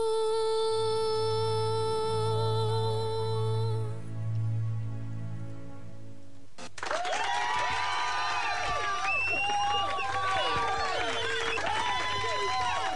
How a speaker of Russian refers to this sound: Вы знаете, это такие искусственные какие-то аплодисменты, которые я сейчас быстренько в базе нашла.